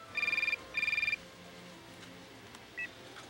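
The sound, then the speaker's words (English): A telephone rings twice in quick succession at the start of a phone call, each ring a fast warbling trill, loud, followed by a brief faint electronic beep against a quiet background. “Why don't we play back that phone call that you just described?”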